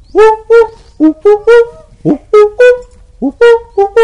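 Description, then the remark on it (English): A human voice with a sore throat imitates the call of a koel or cuckoo with a loud series of short, tuneful hooting notes in quick rhythm, some rising in pitch, pausing briefly before a final burst. “So Shiva came to the bottom of the hill, and to announce his arrival, he made the sound of a coil or cuckoo.”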